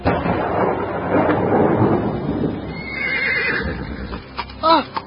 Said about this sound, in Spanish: ¿Qué pasa ahora? ¡Rápido! ¡Los caballos escapan! ¡Se van los caballos!